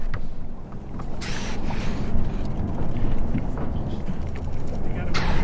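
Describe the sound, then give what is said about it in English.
Two sharp, breathy pops of a porpoise cow-calf pair exhaling at the surface in a bay about 5 or 6 feet from a research boat, each a quick hiss of air, rising over a steady low rumble of water and boat noise. “Here's a cow-calf pair close to the boat, and we'll hear this pop.”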